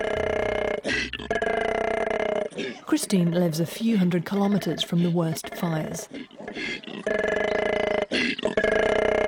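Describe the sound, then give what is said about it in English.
A koala visiting a garden at night gives a deep, guttural growl: loud, rasping, droning bellows at the start and again at the end, with a voice speaking in the quieter stretch between them. “It's a deep, deep guttural growl.”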